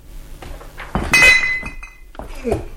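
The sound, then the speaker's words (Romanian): Glass bottles, some empty and some full, clink together in a short cluster of bright, ringing knocks near the middle, with a faint voice-like murmur and soft rustling around them. “Uite-l și pe stăpân. Nu-l vedeam de sticle.”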